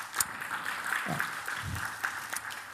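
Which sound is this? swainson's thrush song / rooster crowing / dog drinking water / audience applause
audience applause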